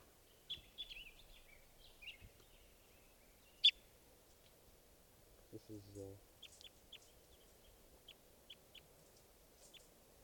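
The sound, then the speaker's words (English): Scattered high, thin bird chirps and short trills come through over a low background hiss, with a lower, buzzy call in the middle and a row of quick repeated peeps near the end, recorded at 12:30 while testing birds. “Going out at 12:30, testing some of the birds here.”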